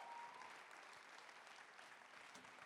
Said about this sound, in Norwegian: Du skal få lov til å dele litt med oss. Gi en applaus.